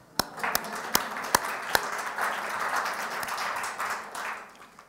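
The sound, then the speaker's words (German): A handful of sharp, separate claps ring out first, then swell into a steady, moderate wash of audience applause offered in praise of the Lord, holding for several seconds before tapering off. “Ihm ein Beifall.”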